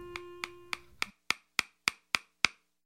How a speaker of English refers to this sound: He would sit at his bench, hammering, putting new soles on people's tired old shoes.